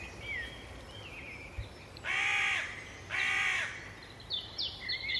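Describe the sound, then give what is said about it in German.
Two loud, harsh crow caws about a second apart stand out over a quiet outdoor background, with fainter chirping birds calling before and after them. “Die Natur, die Vögel in der Luft,”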